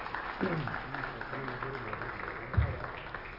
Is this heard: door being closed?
no